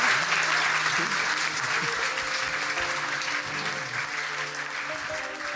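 audience applause

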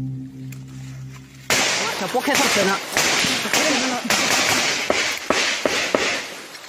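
bursts of gunfire

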